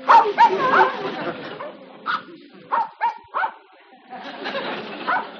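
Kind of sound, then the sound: animal, dog barking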